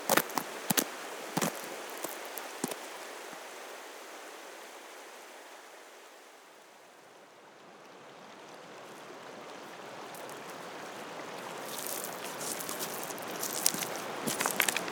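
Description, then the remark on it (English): The River Kent at Bowston rushes steadily, its broad hiss swelling and easing, while crunching footsteps on a loose shingle shore beside the river come and go, busiest at the start and again toward the end. “We've come down the stream, not too far, but we've come right beside the River Kent onto a shingle shore, at Bowston.”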